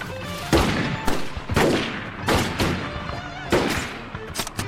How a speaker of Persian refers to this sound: نه از نفر پوششیمون کدوم گوریه؟ دارن به همون شلیک میکنن.